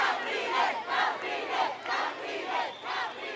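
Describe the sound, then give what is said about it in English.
A large crowd at a political rally in the streets of Caracas for opposition leader Enrique Capriles roars and chants in rhythmic surges, loud voices rising and falling roughly every half second like a rally chant, with no single speaker standing out. “In the gritty streets of the capital, the crowds have been as big as ever for the young, energetic opposition leader, Enrique Capriles.”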